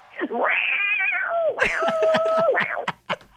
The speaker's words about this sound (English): Did we hear the cat call?